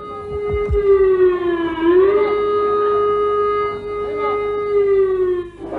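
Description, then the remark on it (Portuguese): An air raid siren wails steadily and loudly in the capital of Slovenia as people run to shelters from a possible air attack, its tone dipping slightly and then rising again as it holds, with a low rumble of background noise beneath it. “A sirene está soando na capital da Eslovênia.”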